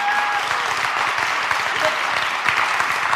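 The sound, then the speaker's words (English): A church audience claps steadily to thank the people involved in Sunday morning worship, the dense patter of many hands at a fairly loud level throughout, with no one speaking over it. “So there are a lot of people who are involved in the worship that happens here on Sunday morning, and they don't do it to get a round of applause, but can you just thank them with me for what they do?”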